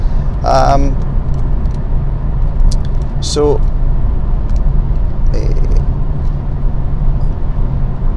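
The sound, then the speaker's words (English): Steady, loud low rumble of road and engine noise inside a moving car, droning continuously throughout, with a few brief voice-like sounds rising above it. “And I am very happy with this car.”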